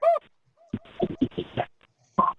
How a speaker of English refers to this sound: Hi, I have a puppy dog. He's barking. Like puppy dog, like bark, okay. bark. You hear him?